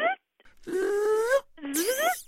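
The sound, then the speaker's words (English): A voice imitates a car brake's hissing whistle: a short opening burst, then two longer rising, wailing tones with breathy hiss layered over them, fairly loud. “It sounds like a hiss with somebody, you know, kind of whistling behind it.”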